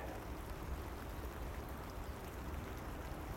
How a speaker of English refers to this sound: But there again, I really am getting soaked this morning. That rain's quite heavy.